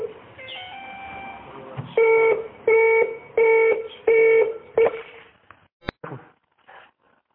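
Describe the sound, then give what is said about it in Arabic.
A phone line's disconnect tone after a call is cut off without warning: a series of about five short, evenly spaced electronic beeps with a harmonic buzzy tone, followed by a brief click and some faint line noise. “شيخنا نعتذر، يعني الهاتف انقطع بدون إشعار، بارك الله فيكم.”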